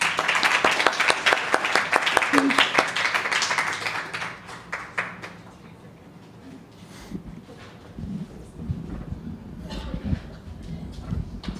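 A crowd breaks into loud, dense applause that thins out after a few seconds into scattered claps and low murmuring voices, with a brief swell of clapping near the end.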